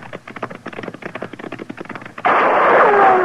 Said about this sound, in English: Hey, he's shooting at us.